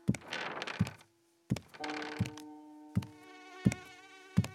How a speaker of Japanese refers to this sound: ハエが飛ぶような音まで聞こえてきた。なんで虫が飛んでるのよ。